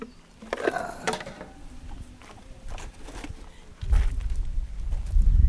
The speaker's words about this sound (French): veux que je grille une allumette, que je craque une petite allumette.